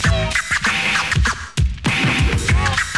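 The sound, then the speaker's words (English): A DJ scratches a record on a turntable in quick back-and-forth bursts, with sharp swooping pitch sweeps and brief cuts between strokes, loud and rhythmic with no talking. “Record burn.”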